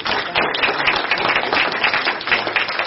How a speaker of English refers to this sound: Should we just keep cheering?